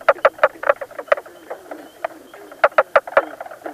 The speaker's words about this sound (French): Ici, au lac Imbeau, on retrouve trois espèces différentes. La plus grosse et la plus aquatique, c'est la grenouille du Nord. Elle est verte et est grosse comme une balle de tennis. Son chant ressemble à celui d'une poule qui caquette.